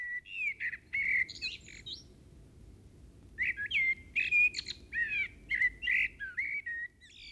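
A blackbird sings in a meadow in clear, warbling phrases, a short burst, a pause of about two seconds, then a longer run of varied notes over a low, steady background rumble.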